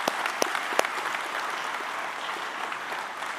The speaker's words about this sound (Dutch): En ik weet niet of je ook in de ritme zult me wel even met een hartelijk applaus geven. Want dat is wel op zijn plaats.